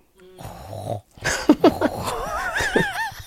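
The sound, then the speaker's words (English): A voice imitates breathing through a snorkel: a harsh, rasping inhale followed by a longer, wavering, gurgly exhale, fairly loud, with no talking. “I'm scared of the breathing. Like, I don't know if I'd be able to do the”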